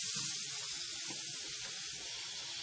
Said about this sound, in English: I'm in the bathroom behind the, and you can't really hear me, but I'm turning on the sink over here in the bathroom.